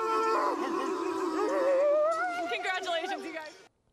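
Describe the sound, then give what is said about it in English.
Several men, professional athletes of the Thunder, bark and howl like dogs together to end an interview, their voices imitating the animals in loud, overlapping, drawn-out yelps, ending abruptly after a few seconds. “Ending an interview by barking like dogs.”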